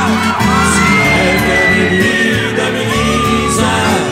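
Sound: audience shouting and whooping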